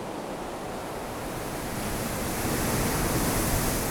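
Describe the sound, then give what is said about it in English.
Steady ocean surf building to 4 to 5 foot waves with a broad, hissing wash of gale wind, gradually swelling louder over a few seconds. No voices, just a continuous roar of waves and gusts. “More comforting than the gales that hiss at me to leave.”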